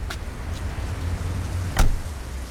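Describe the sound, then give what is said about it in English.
A taxi cab pulls up on Lowestoft Road, Peckham, in the rain; its engine idles with a steady low rumble, broken by a couple of sharp thuds like a door or the vehicle settling, with a faint rain hiss in the background. “So let's get him into the cab.”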